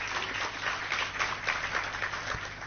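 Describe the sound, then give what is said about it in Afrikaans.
An audience applauds steadily to thank the speakers after a talk about Israel, a dense, even patter of many hands clapping together at moderate volume, holding without a break for a few seconds with no one speaking over it. “kom ons gee gou geleentheid, kom ons klap eerst lekker hande, daar is hy.”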